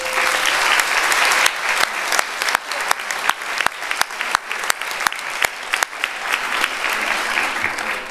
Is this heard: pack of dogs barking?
no